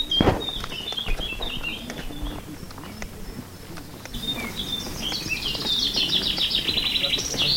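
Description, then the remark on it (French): Birds sing and chirp outdoors on a sunny day during a walk from L'Épine, in an ongoing chorus of bright, high warbling notes, growing denser toward the end, over a low rumble of ambient noise and occasional soft knocks. “Le soleil est au rendez-vous, les oiseaux chantent.”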